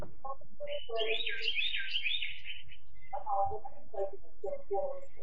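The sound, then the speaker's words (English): A bird chirps in a rapid, high-pitched warbling burst for a couple of seconds, followed by shorter chirpy notes, while a voice talks underneath at a moderate level. “It sounded like a bird jumped in there.”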